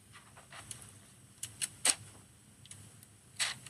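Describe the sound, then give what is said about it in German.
Irregular soft brushing and crinkling of hands moving over paper, a sleep-app sound: scattered brief dry swishes with a few sharper rustles, fairly quiet, with no talking. “Mach mal Hände auf Papier.”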